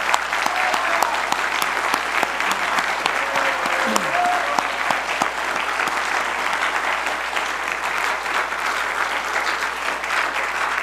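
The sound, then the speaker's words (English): Sustained audience applause for graduates at a graduation fills the whole clip, a dense, steady wash of clapping hands that stays loud and even throughout with no pauses. “And let's give these graduates one more big hand of applause.”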